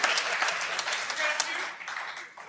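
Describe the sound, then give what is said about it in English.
A crowd claps steadily for a couple of seconds, a dense wash of many hands at moderate volume that holds fairly even before thinning slightly at the end. “I feel like that was kind of a forced applause break.”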